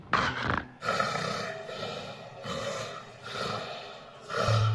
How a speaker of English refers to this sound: Let's just hear what you're talking about when you talk about this, you know, almost choking that happens to people with sleep apnea. Let's listen.